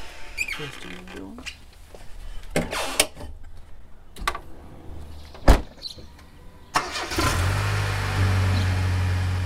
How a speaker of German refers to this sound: Dann gehen wir ins Auto. Ja. Wir steigen ein.